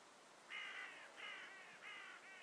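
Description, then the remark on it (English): A crow caws four times in a steady series of harsh rasping calls over a soft background hiss, with no talking. “This crow is cawing away.”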